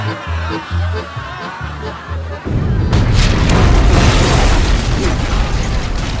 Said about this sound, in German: Die vordere Pulverkammer der Oxford zerbirst mit einem ohrenbetäubenden Knall. Die Luft erzittert. Ein riesiger Feuerball steigt auf. Zersplitternde Schiffsplanken und schreiende Menschen.